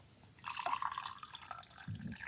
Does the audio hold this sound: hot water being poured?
yes